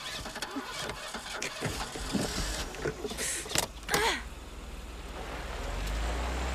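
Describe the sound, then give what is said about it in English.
A car engine starts up with a few sharp clatters and gravelly bursts, then a low rumble swells steadily as the car pulls away, its tires kicking up dust on a loose, dusty road. “The tires kick up dust as the car pulls away.”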